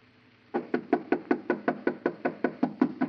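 A rapid, steady series of about a dozen fairly loud knocks with the knuckles on the wooden door of a house, starting after a brief quiet moment and continuing evenly with no voices.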